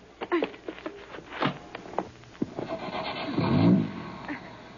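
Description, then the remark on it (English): A few clunks and knocks, then a car engine turns over and catches with a low, rising rumble that swells near the end, moderately loud. “Get in and start the motor.”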